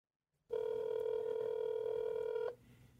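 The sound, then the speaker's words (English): A phone tone sounds while a call is placed: one steady, loud electronic tone holding for about two seconds before cutting off abruptly, leaving faint background hiss. No one speaks. “I'm so happy you answered my call.”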